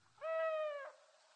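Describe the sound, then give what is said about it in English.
A single owl call rings out, one steady drawn-out hoot lasting under a second, from an owl brought to a farm to hunt rats and mice, with quiet background before and after and no voices. “Pujo Arto brought owls to his farm.”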